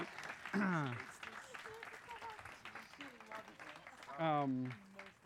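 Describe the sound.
An audience claps steadily for several seconds, a dense patter of many hands, while people cheer and whoop over it in rising, sustained voices.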